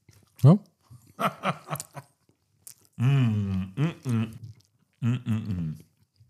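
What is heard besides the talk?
smacking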